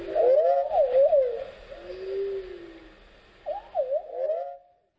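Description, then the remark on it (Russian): Musical improvisation alongside birdsong: sliding, warbling melodic tones wander up and down, pause briefly, then return in short bursts before fading to silence. No one speaks. “на котором записаны его импровизации в сопровождении пения птиц и других природных звучаний.”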